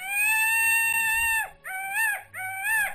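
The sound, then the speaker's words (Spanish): A loud, piercing peacock call: one long sustained wail followed by two shorter rising-and-falling cries, heard alone with no talking. “Pavo real alegre.”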